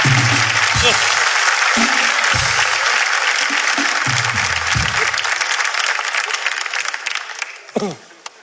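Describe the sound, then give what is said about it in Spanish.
Loud, sustained applause from a sizable audience fills the space, with occasional low voices underneath, then thins out and fades toward the end. “Un fuerte aplauso para el público, lo está haciendo muy bien, de verdad.”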